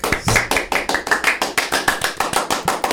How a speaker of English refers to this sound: All right, enough applause.